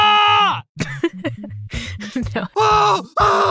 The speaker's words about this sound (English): I'm trying to find a very specific scream, one that's forever etched into my memory. No, that's like way more of a manly, brave scream.